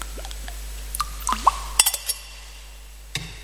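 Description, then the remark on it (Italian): A small amount of water trickles into wine in a chalice, a few soft drips and gurgles followed by light metallic clinks, quiet. “L'acqua unita al vino, se il segno della vita divina.”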